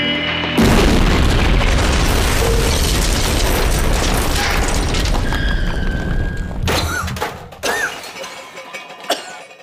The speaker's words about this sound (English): And then we literally crashed into the space station.